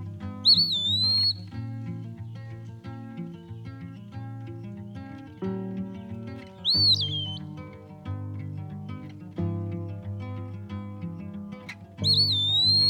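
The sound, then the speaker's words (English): Three clear, slurred whistled calls of an eastern wood pewee, spaced several seconds apart, ring out high and sweet over a steady, fairly loud musical accompaniment. No one speaks. “I would hear its song most mornings. Turns out it's an eastern wood pewee.”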